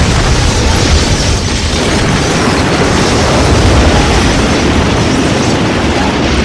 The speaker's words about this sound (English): A volley of missiles comes screaming out of the sky. They slam into the Master of Sorrow and his forces, unleashing explosive fury.